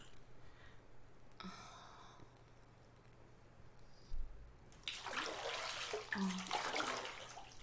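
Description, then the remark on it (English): Warm bath water starts rushing and splashing about halfway through, a steady hiss with small irregular sloshes, after a mostly quiet opening with a faint soft rustle. “The water is lovely and warm.”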